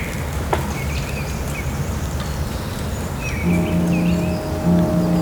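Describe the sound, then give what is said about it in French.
Faint, scattered spring bird chirps and twitters rise over a steady wash of soft dripping and trickling water droplets, with small grains of snow falling among conifer branches, and a low humming drone joining partway through. “Des gazouillis, des gouttelettes d'eau, des petits grains de neige qui tombent entre les ramures des conifères.”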